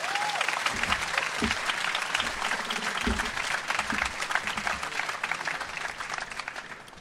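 A crowd claps steadily, with dense, continuous applause holding at an even level throughout and a few louder hand claps and faint voices mixed in.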